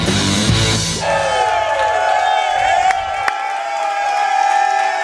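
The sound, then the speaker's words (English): An excited, sold-out crowd at the Hy-Vee Market Grill on 119th Street in Olathe cheers loudly and steadily during the Chiefs Kingdom Show, with high whoops and long, sustained shouts rising above the dense roar for about five seconds. “What a great crowd here tonight.”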